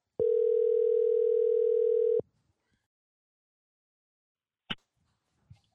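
A phone line rings on an outgoing call: one loud, steady, buzzing ringback tone lasting about two seconds, then silence broken by a brief sharp click and a faint tap.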